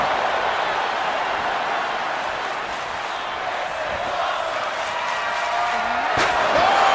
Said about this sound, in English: Oh! Oof, chucked that chair right out.